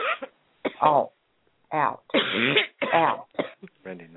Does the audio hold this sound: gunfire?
no